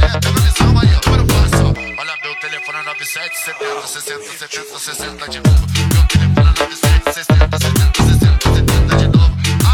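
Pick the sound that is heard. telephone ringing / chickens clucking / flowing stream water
telephone ringing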